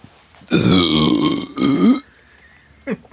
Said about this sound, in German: Dieser Rülpser wurde Ihnen präsentiert von Schmackofatz.